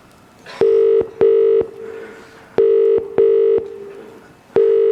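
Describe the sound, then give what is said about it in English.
A British telephone ringing tone: loud, steady double buzzes repeating in a brr-brr, pause, brr-brr pattern, two full pairs and the start of a third, with no voices. “For example, the nice thing is like the English sound. I can try that. So you have like a ring cadence.”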